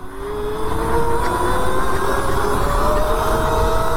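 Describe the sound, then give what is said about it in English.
A small mini bike engine screams at full throttle while ridden on the street at top speed, its buzzing whine building over the first second and then holding loud and steady, pitch creeping slowly upward under rushing wind noise. “Top speed, here we go.”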